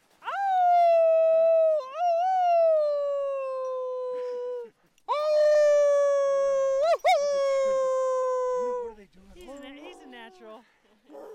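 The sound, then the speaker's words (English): Human voices imitate wolf howls at the Howlin' Growl, an event held each full moon: two long, loud, sustained howls with rising and falling pitch, then a shorter, wavering howl trailing off, with no other sounds. “reporting today in a special audio broadcast on the Howlin' Growl, a wonderful event which happens each full moon”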